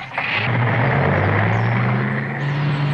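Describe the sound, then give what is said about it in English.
A new car's engine rumbles steadily as it is started, its low hum climbing gradually in pitch as the car pulls away slowly and picks up speed, with no voices over it. “Okay, start the car and go slow.”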